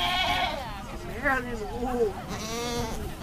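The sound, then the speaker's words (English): Sheep bleat repeatedly at a sheep and wool event in Howard County, Maryland, where sheep are being sheared: loud, quavering cries overlapping one after another, with a busy murmur of voices and crowd noise underneath. “It's the Maryland Wool and Sheep.”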